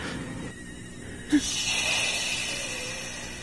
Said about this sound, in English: Are you breathing like that? It's like 30 degrees in here.